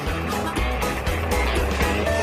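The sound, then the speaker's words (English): A heavy diesel tractor engine rumbles steadily as it pulls a stuck truck, a loud continuous low drone with rough mechanical clatter layered on top as it works under load. “All right, get the tractor out of here. We're just gonna hook it to the Kubota.”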